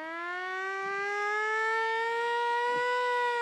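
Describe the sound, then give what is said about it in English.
A loud alarm siren wails steadily, its harsh, buzzy tone slowly climbing in pitch over a few seconds with no voices over it. “Ephesians is sounding an alarm.”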